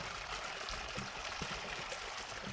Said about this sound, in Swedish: Och det som porlar här, det är ingen skogsbäck utan ett konstruerat vattenfall som följer stigen och trapporna.